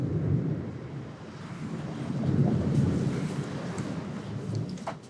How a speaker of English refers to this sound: Couldn't have timed that thunder strike any better.